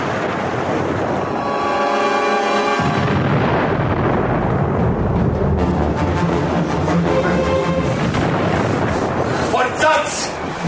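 Loud, continuous booming of cannon fire, heavy rumbling volleys that swell and crack in quick succession, dense throughout, with a voice audible near the start.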